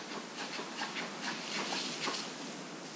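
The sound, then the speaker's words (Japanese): A bear moving off through undergrowth: soft, irregular rustling thuds and brushing sounds repeat over a steady hiss of background noise, with no voices. “人間の匂いを感じ取ったのか逃げていくような音が入っています。”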